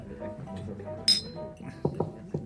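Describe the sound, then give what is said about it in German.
Two glasses clink once in a toast with a bright, ringing chime, clearly audible, with low murmuring voices and a few short vocal sounds around it. “Prost.”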